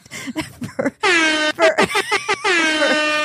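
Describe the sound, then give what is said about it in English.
A car horn, from a convertible BMW arriving to pick someone up, honks loudly: a few short choppy beeps, then a long blaring blast, a rapid cluster of quick toots, and another sustained honk. “She would come pick me up. Like, beep, beep.”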